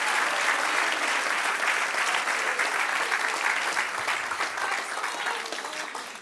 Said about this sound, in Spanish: Dale un aplauso al que reina. Aleluya.